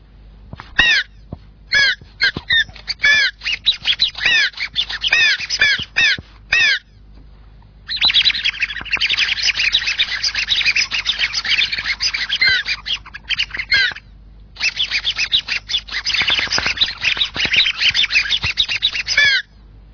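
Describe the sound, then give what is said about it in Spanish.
Birds chirp and call in quick, repeated bursts, some harsh and squawking like crows, loud, with brief pauses before the chorus resumes busily. No one speaks. “Y quizás mientras que ahora oís estos pájaros, podéis respirar profundamente y dejar que el aire llegue hasta vuestra tripa, a ver cómo sentís.”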